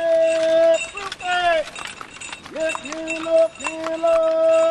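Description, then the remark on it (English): Horse hooves clip-clop steadily along a Baltimore street as a horse-drawn fruit and vegetable wagon rolls by, while a man's drawn-out, sing-song street calls, rhymes about the produce for sale, ring out loudly over the clatter. “Two men are walking down a street alongside a wagon pulled by a horse.”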